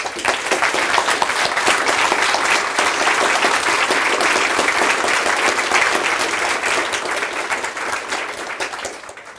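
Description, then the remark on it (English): An audience at the WikidataCon event breaks into sustained applause for the event photographer, many hands clapping in a dense, steady wash that stays loud throughout and only begins to thin slightly at the very end. “So special applause for our photographer.”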